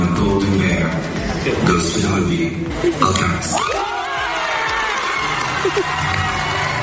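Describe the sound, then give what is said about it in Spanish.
A crowd of villagers in Alcarràs, Lleida, gathered at night to watch the Berlinale award, cheers, jumps and shouts excitedly, with overlapping voices, high-pitched whoops and rising yells blending into a loud, sustained celebratory din throughout. “Se han emocionado muchísimo, se han puesto a saltar, a gritar.”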